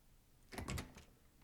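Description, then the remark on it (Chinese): A door with a keypad lock is opened using the code 78: a short burst of mechanical clicks and a latch clatter lasting about half a second, with no voices. “门密码是78，我不方便开门，你自己进来吧。”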